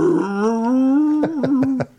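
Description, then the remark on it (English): A male hound with a 36-inch ear spread lets out a long, loud, drawn-out howl, the tone rising slightly before breaking into a few quick pulsing yelps at the end. “And he's got a howl on him.”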